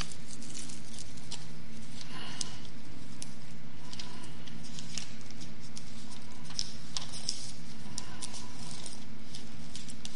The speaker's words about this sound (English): You know, if I'd use this Bible more instead of just setting it up here, I could make the pages turn better.